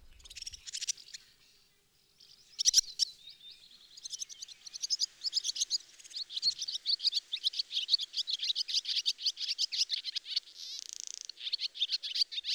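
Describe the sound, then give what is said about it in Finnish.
A pair of swallows calls busily in a yard in late spring: bright, rapid chattering notes that start briefly, pause, then pour out nearly nonstop, clear with no voices. “Sama pari samaan pihaan ja esittäytyy kuuluvasti.”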